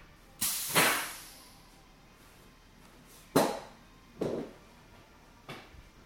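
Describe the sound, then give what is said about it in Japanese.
Pneumatic hissing from a car lift jack lowering a Roadster car after its tires were fitted: a long opening burst of air, then three shorter hisses spaced a second or so apart, each fading quickly, with no voices. “今降りていきますね。いやー、このジャッキの動きもかっこいいんじゃないですか。”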